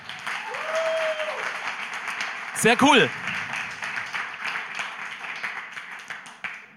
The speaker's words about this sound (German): Und gebt mal denen, die zum ersten Mal da sind, einen riesengroßen Applaus.